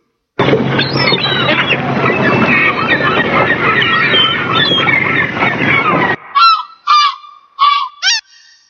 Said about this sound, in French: Alors nous avions la mouette et le goéland.